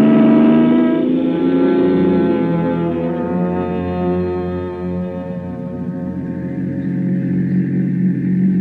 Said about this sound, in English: Vacation, here we come. Come on, car, let's go.